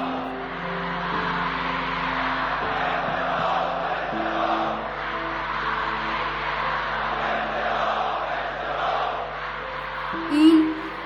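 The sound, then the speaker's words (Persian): A dense, roaring crowd in the streets of Tehran, at the funeral procession of the Leader of the Revolution, fills the air with continuous shouting and wailing voices, a steady wash of noise with low sustained tones underneath and a brief louder swell near the end. “صدای جمعیت در خیابان‌ها ترکیبی از فریاد حق‌خواهی و ناله‌هایی بود که از اعماق جهان برمی‌آمد.”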